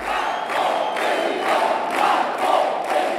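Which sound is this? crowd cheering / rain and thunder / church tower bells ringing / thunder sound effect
crowd cheering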